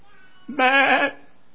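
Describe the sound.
A single wavering, nasal bleat like a sheep's, about half a second long and fairly loud, most likely a human voice imitating the sheep. Quiet before and after.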